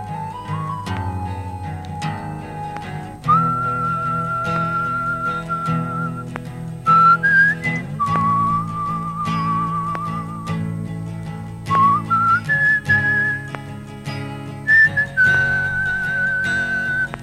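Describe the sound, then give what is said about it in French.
An old man whistles a slow, steady tune, holding long notes that step up and down in pitch, clear over a soft, sustained musical backing, with no talking. “Seul un chien le suivait, qu'il ne connaissait pas, et qui se trouvait là car le vieil homme sifflait.”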